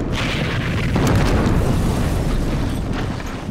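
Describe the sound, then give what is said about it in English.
A loud, sustained explosion roars with deep rumbling and crackling debris, a broad blast that stays intense and overwhelming throughout, with no voices. It is a church used as a field hospital being hit during Luftwaffe aerial bombardment. “Running towards the church, the explosion.”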